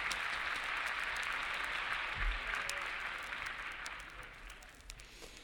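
Sustained applause from a large audience for calypso performer, a dense steady patter of many hands clapping that holds strong and then slowly tapers off toward the end.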